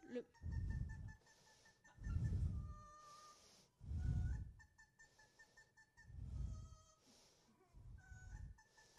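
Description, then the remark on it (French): A pet parrot raised by private owners, not a lab parrot, sings in a series of repeated phrases about two seconds apart, with sustained whistle-like tones over throaty, voice-like bursts, moderately loud. “Alors on voit qu'il a du mal, donc c'est d'autant plus intéressant de voir que finalement il va quand même se mettre à chanter.”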